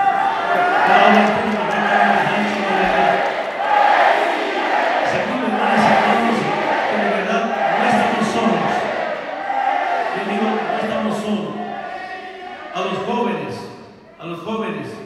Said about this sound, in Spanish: Y sobre todo, hermanas y hermanos, de verdad, me emocionan al seguir gritando, Evo presidente, yo pensé que ya se había acabado de gestión.